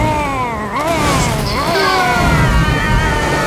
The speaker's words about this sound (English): The beast is slapping the water with its horrible tentacle.